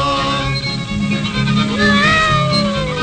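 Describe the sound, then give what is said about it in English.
A cat meows with a drawn-out, rising cry about halfway through, standing out clearly over a steady, busy musical backing of the song Old MacDonald Had a Farm, in the verse about cats. “On that farm he had some cats.”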